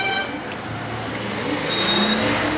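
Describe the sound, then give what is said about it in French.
Horns of fire engines or ambulances blare through a dense, steady roar of traffic and engines, their sustained tones layered into the busy street noise without pause. “Un peu partout, on entend les trompes et comme des voitures de pompiers ou d'ambulances.”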